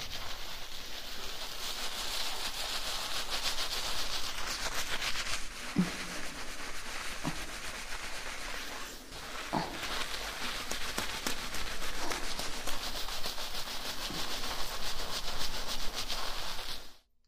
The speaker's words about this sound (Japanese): ではシャンプーをします。前髪を洗います。目を閉じてください。